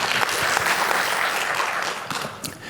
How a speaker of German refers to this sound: Ich glaube, ein Applaus für die Frage.